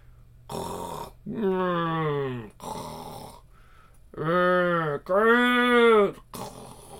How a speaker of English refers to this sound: Let them snore as long as they like.